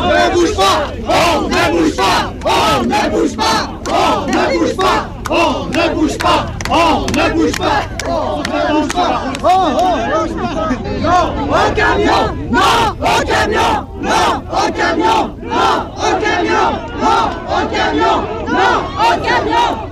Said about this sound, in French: On se trouve sur le terre-plein qui monte vers le Mont-Blanc, un camion qui approche. Un camion italien est bloqué devant la route qui monte au Mont-Blanc. Là, il y a une cohue entre les gendarmes et les manifestants.